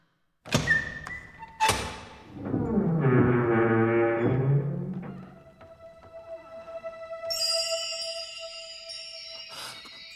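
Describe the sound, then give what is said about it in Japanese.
A heavy door is opened for Link to reveal the Triforce, in a story set in Hyrule: two loud thuds, then a long, low grinding rumble as it moves, fading into a sustained ringing tone with bright shimmering chimes. No voices. “今からこの扉を開け、あなたに勇気を授けます。”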